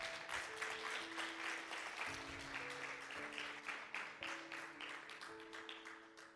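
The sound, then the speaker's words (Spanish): An audience applauds God steadily, a dense wash of many hands clapping that holds for several seconds before easing slightly, with sustained keyboard chords changing underneath. “Den un aplauso a Dios.”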